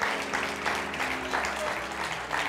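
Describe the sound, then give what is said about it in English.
A crowd claps steadily together in praise to God, a dense wash of hands with swelling pulses, reverberant, moderately loud with no voices on top. “Come on, somebody, give God a hand clap of praise.”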